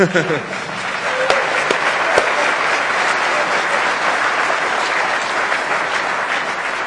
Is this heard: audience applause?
yes